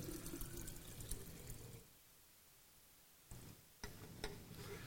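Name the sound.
water poured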